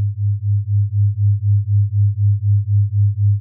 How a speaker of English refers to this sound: I will play a frequency in your left ear and a slightly different frequency in your right. These are flat tones, but when heard together, your brain creates a rhythmic beat.